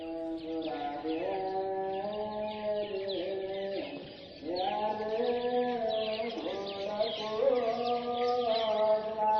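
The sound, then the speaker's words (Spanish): Small birds chirp busily and continuously, their twittering layered over a steady hum of sustained chanting voices from a simple Mass in the early hours of a Sunday, the chant softening briefly midway before resuming. “Se oyen más los pajaritos casi que el cántico.”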